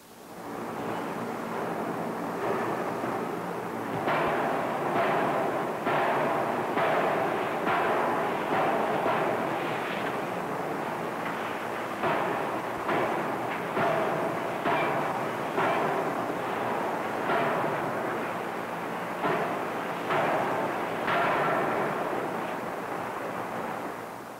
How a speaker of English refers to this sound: This is a crankshaft forging unit consisting of two steam hammers and their auxiliary equipment.